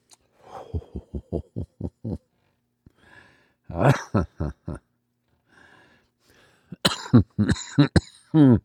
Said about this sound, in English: Yeah, that's still an issue I have with concentrates, is the old cough that comes out there. And you probably haven't heard much of that because I tend to edit those out when we go to air with this.